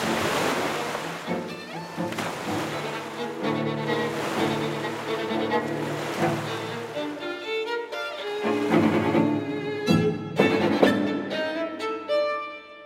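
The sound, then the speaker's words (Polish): Sea waves break and wash steadily onto the shore, a continuous rolling surf with a few louder surges, blended with sustained tonal music and no voices. “Uśmiechnął się starszy pan, bo przypomniał sobie, po co przyjechał nad morze.”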